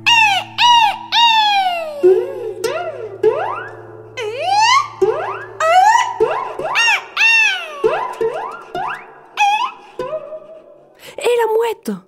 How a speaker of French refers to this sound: Et chant, chant, chant des mouettes.